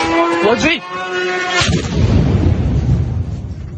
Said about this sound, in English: This is what it sounds like to be near an explosive drone attack.